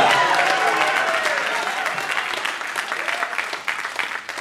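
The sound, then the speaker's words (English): An audience claps their hands to God in worship, sustained, dense applause with cheering voices mixed in, loud at first and gradually tapering off over a few seconds. “So that's how we can we just give God a hand clap of, come on, I want you to practice a little bit.”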